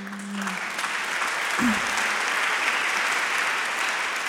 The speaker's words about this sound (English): You have to stop clapping, okay? Because it's making me really nervous.